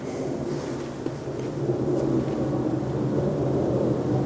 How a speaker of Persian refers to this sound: هر روز این هواپیما چنان سقوط میکنه تو خونه ما و هر چقدر میگذره سخت‌تر میشه.